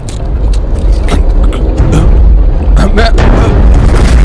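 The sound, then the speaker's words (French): An ice sheet cracks and breaks apart: a loud, continuous low rumble punctuated by sharp snapping cracks and heavy booms that recur irregularly throughout. “Ah, la glace se rompt!”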